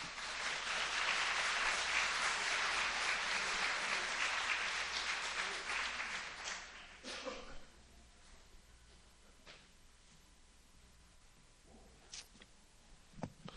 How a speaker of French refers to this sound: Accueillons et applaudissons M. Mike McKenzie.